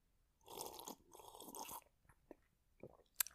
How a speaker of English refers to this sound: With me, as always, is my special guest, my co-host, really, a small sip of whiskey. Here is what my co-host sounds like.